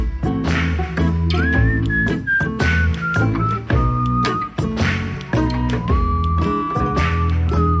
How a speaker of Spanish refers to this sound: Ahora te preguntaré quién silba, ¿eh?